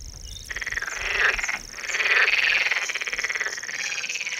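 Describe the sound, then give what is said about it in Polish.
A dense chorus of calling frogs, many overlapping trills and croaks pulsing together in fast rhythmic bursts, loud and steady throughout with no voices. “No a teraz prawdziwy koncert płazów.”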